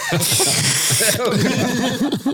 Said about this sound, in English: Why are you sniffing so aggressively?